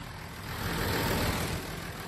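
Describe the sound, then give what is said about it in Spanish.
A farmer's tractor engine idles during a farmers' tractor protest, a steady low rumble with a broad mechanical hiss that holds at an even level for a couple of seconds, with no voices. “Gracias por haberme dejado estar en tu tractor.”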